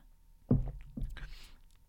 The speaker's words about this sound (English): I need to take a sip of my coffee, y'all.